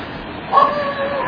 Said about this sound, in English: And it sounds like my neighbor's dog is all excited.